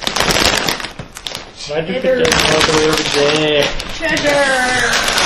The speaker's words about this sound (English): Yeah, now we get to listen to ripping of bags and screaming. Yes, make so much noise.